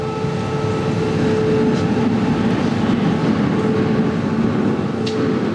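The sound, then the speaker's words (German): A rumbling vehicle elevator of the Elbe Tunnel descends with cars aboard, giving off a steady, loud mechanical roar with a faint whining hum and occasional light rattles, continuous throughout with no voices. “Auch immer schöne Geräusche, wenn der rumpelnde Fahrstuhl hier nach unten geht.”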